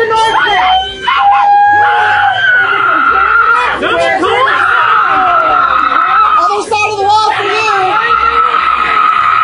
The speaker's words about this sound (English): But anyway, so here is someone at a Trump rally, not a fan of Trump, and she's showing her displeasure by holding both of her middle fingers up and screeching. And then there's a lot of, like, Trump supporters screaming at her.